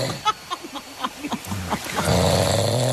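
A man snores loudly and harshly, a rough, growling rattle that starts in short pulses and swells into a continuous, throaty roar, close and heavy, like a recording played back.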